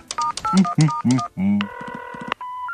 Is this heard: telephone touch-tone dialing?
yes